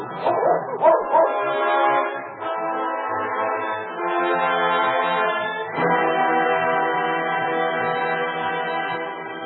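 A dog gives a few quick barks, then breaks into long, drawn-out whining that carries on steadily and fairly loud, with no one talking.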